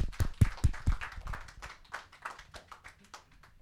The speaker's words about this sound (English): So why don't we right now give a warm round of applause